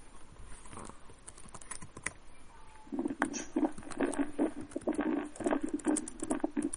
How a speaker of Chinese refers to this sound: 我想打字，我很慢，姊妹都打好了